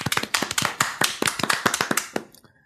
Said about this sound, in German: Ich möchte bitte Applaus jetzt. Los.